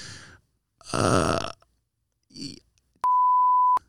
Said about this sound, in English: We're going to bleep it.